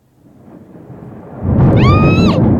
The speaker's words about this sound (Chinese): 打雷了，讨厌！我不喜欢打雷。